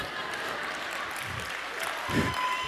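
A lone person claps a few times, scattered hand claps standing out over a steady, noisy room murmur with no clear speech.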